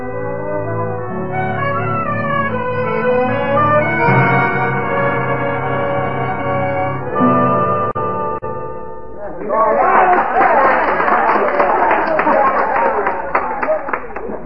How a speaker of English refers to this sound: what's that crowd down the street? Oh, it's a medicine show, Hoppy. Down in that vacant corner across from O'Hara's livery stable.